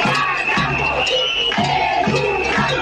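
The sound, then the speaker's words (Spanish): A loud crowd of protesting educators of children aged 0 to 3, in a dispute with the government of the Principado, chants the slogan "no guardamos, educamos" in unison. The shouted phrase repeats in a steady rhythm about once a second over continuous crowd noise. “Gritaban: no guardamos, educamos.”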